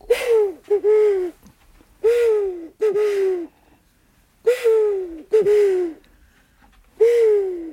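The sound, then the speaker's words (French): A series of owl-like hoots blown on a bird call imitating an owl, about seven short, breathy tones in uneven pairs, fairly loud, with brief pauses between them and no talking. “Et celui-là, on le connaît partout, c'est notre hibou.”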